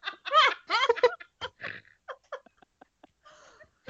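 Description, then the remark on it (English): A person makes a chicken-like vocal imitation: a few loud, warbling squawks, then a string of short, sparse clucking bursts that gradually trail off. “You sounded exactly like one of the chickens off Chicken Run then.”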